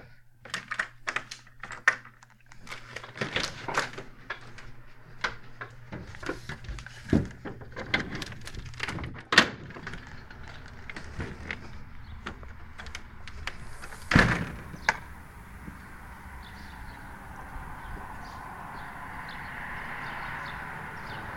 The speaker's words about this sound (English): Door's locked.